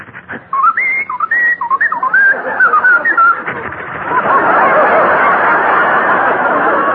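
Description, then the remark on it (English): Someone whistles a short, lilting tune of quick, sliding notes, clear for about three seconds, then a loud, steady wash of crowd-like noise takes over. “That dog whistled ….”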